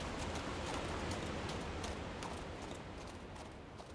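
Horses' hooves clip-clop in a steady, uneven rhythm as riders head home on horseback, over a constant rushing background noise, with no one talking. The clopping fades slightly toward the end.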